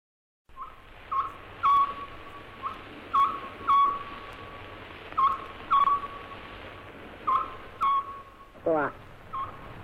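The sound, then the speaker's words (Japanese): A Buppōsō (scops owl) repeats its three-note call, short clipped hoots in groups near one steady pitch, over the constant hiss of an old live radio broadcast from 7 June 1935 at Hōraiji temple on Mount Hōraiji, Mikawa Province, Japan, with a brief sweeping chirp near the end. “じゃあそのちょっと仏法僧の鳴き声の中継の音声をおかけしましょう。”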